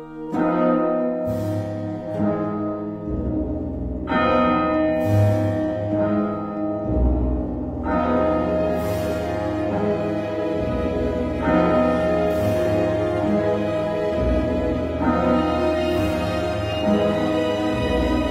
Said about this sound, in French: Les cloches sonnent.